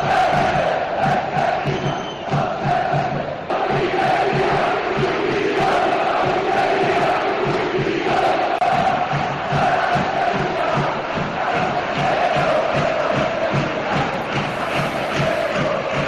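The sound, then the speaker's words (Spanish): A loud Sevilla crowd at the Sánchez Pizjuán stadium shouts and chants in unison against the directors' box, calling that Sevilla is not for sale, a dense, steady roar of many voices with a rhythmic, pulsing beat running throughout. “Antes, en el descanso del partido y cuando ya el encuentro estaba prácticamente solventado con el 3-0 en el tramo final del encuentro, se escucharon gritos así en el Sánchez Pizjuán contra el palco.”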